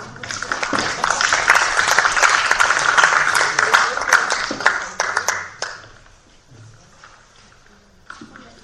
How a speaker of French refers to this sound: On applaudit, mais on vote aussi.